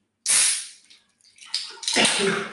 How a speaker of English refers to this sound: I still have this friggin' cough, so sorry, guys.